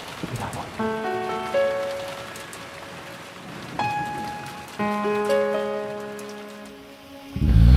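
A steady wash of falling rain hisses beneath sustained, chiming musical notes that swell in two phrases, with a low thump near the end; no one speaks.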